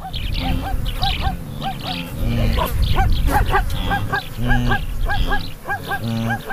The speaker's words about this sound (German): Das etwas panisch klingende Bellen zwischendurch, das sind die Zebras, und das tiefere, entspanntere Grunzen, das sind die Gnus.